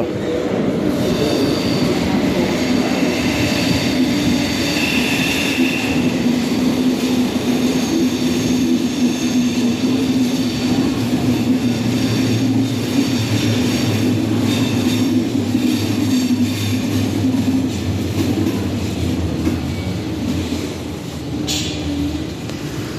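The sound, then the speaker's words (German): A train rumbles steadily into a station across the platform, a loud low drone with faint metallic wheel squeal rising above it, continuous for the whole stretch with no talking. “Das ist der Zug, der da jetzt gerade gegenüber eingefahren ist.”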